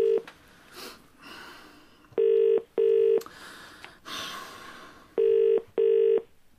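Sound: telephone number being dialed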